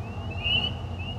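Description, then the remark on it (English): A steady, high-pitched frog call rings out continuously from a porch in spring after overnight rain, over a low outdoor rumble, swelling briefly in the middle before easing back, with no voices present. “I'm hearing frogs.”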